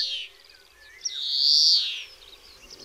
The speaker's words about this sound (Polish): Śpiewają już dzwońce.